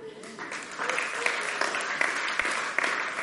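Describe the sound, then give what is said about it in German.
A crowd breaks into steady applause, dense clapping filling the whole stretch with scattered cheers and whoops rising above it, fairly loud and sustained throughout. “Jetzt dürft ihr schon fast mal jubeln.”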